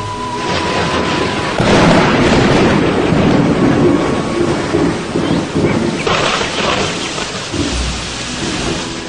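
Steady heavy rain hisses throughout while deep rolls of thunder swell in, one booming surge early on and another rumble later, loud in a raging storm.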